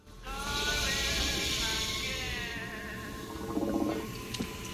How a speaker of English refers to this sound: But can still hear water gurgle under the sink. He stands back and looks at the sink unit.